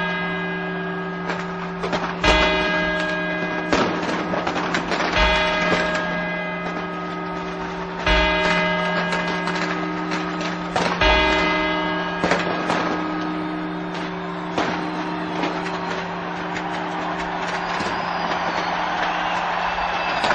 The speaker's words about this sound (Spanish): Aquí comienzan las 12 campanadas. Han terminado 1989.